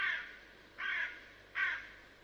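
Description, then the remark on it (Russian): A crow caws three times over the roof of a house, harsh and raspy, in evenly spaced calls about three-quarters of a second apart, clear against a quiet background with no talking. “Ворона. Ее не узнать невозможно.”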